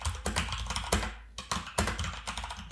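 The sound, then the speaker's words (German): Rapid, loud clicking of keys on a mechanical keyboard, a continuous burst of typing with sharp clacks in quick irregular rhythm, with no voices. “Das ist eine mechanische Tastatur.”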